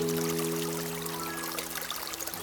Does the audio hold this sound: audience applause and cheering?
no